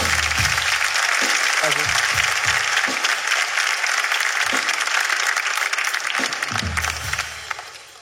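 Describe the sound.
An audience claps steadily for about seven seconds, a dense, loud wash of applause with a few voices shouting underneath, before it thins out and fades at the end.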